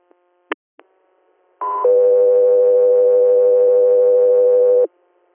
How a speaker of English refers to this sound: Air, standby for tones.